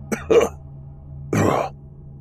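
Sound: man coughing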